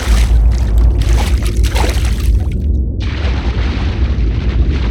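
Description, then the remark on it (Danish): A person takes a deep breath and dives into water with sand and seaweed in it, with loud churning and rushing water that shifts partway through into a steady, muffled underwater rumble. No one speaks. “trækker vejret dybt ind. Og så dykker jeg ned.”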